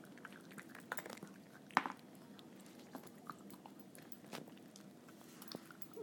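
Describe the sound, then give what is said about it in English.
Irregular wet chewing and crunching from two pets, Waka and Toof, eating bits of food, with scattered soft clicks and one sharper crunch early on, moderately quiet with no talking. “That's both of them eating now.”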